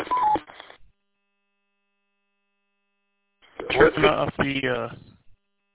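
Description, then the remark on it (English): Short electronic roger beep tones chirp through a narrow, tinny GMRS two-way radio signal, one brief burst, then after a few seconds of silence a longer burst of garbled radio audio. “Maybe turn the Roger beep off on your radio.”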